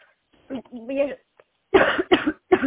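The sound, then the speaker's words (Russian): A brief murmur of voice, then a woman who has choked gives three harsh, forceful, loud coughs in quick succession, with short gaps between them. “Вы что, кашляете? Нет, подавилась.”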